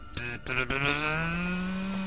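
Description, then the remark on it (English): A cicada's loud, steady buzzing drone that starts with a few rough clicks, then settles into a continuous rasping, slightly rising tone with no voices. “Cicada, just doom, there it is.”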